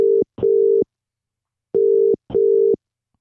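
phone ringing tone

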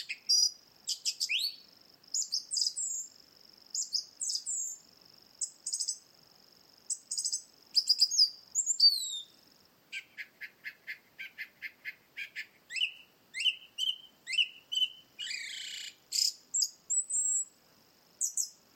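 song thrush singing

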